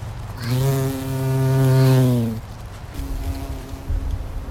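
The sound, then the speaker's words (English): A bee buzzes loudly for about two seconds, a steady droning hum, then fades to a fainter, thinner buzz drifting in the background amid outdoor rustle. “And that was a bee.”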